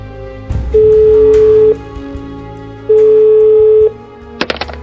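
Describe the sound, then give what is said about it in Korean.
A telephone ringback tone sounds twice, each steady buzz lasting about a second with a pause between, followed by a brief click and clatter as the line is picked up, on a call placed from a hotel. “호텔에 도착한 후지모도는 곧바로 허중만에게 전화를 건다.”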